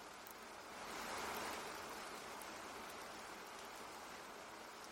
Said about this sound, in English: Rain. Selected. Rain.